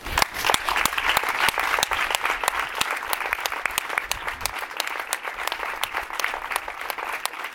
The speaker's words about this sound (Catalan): Si empezamos el minuto de silencio. Y un minut després, els aplaudiments de les persones concentrades.